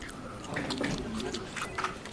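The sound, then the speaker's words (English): Crunchy slime being squeezed and squished, producing a steady run of wet crackles and small popping clicks over about two seconds, with a faint hum underneath. “Crunchy slime?”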